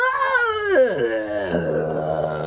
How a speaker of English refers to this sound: You move over to the crate marked "Evil Night" and start to loosen the straps holding it shut. It's still shaking a little, but the screaming has died down to a faint moan.